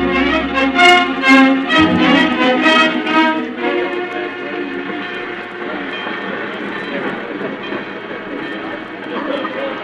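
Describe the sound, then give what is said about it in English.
A train at a station: loud tonal sounds in the first few seconds, then a steady rumble and hiss of the train, with faint indistinct voices underneath. “Darling, your train leaves in 5 minutes, and you'd better stand at the gate if you want to get a seat.”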